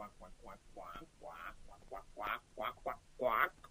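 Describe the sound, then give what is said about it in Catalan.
A voice imitates a duck in the water of a stream quacking in a quick, uneven run of nasal quacks, fairly loud, growing more emphatic toward the end. “Allí, dintre l'aigua, hi havia un ànec que sembla que seguia uns cursets de natació.”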